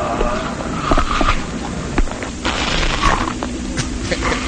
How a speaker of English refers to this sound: The bed, I don't know how the bed has a mouth, it has lips, it has teeth, you can actually hear it eating. Has a stomach, yeah. It's the bed that eats. That bed eats people.